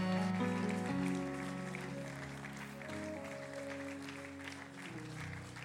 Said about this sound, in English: The rest of us clap as they come.